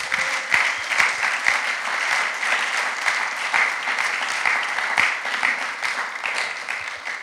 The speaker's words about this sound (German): Ihr dürft an der Stelle einfach gerade mal einen Applaus geben.